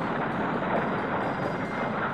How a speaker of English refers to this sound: Each spacecraft carries a copy of the Golden Record, a gold-plated copper disc inscribed with sounds and images meant to communicate what life is like on Earth. There are greetings from around the world. The sound of volcanoes.